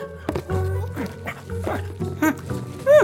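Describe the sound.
A person wearing a dog mask imitates a barking dog with a string of short, yappy woofs in uneven rhythm, ending on a louder, rising whine-like bark.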